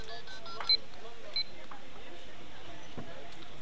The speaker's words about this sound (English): That's the alarm.